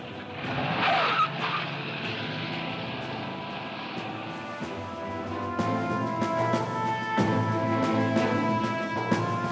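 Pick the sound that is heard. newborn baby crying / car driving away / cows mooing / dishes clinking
car driving away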